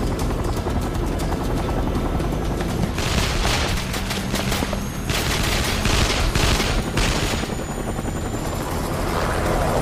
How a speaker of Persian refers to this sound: کلانتری آن ایروندل کانتی گزارش داده یه هلیکوپتر دو مایلی کرافتن سقوط کرده.